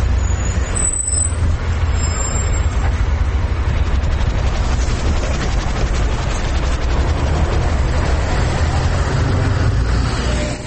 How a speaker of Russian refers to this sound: А это улица Маршалковка, где я выхожу из автобуса. Самый центр города.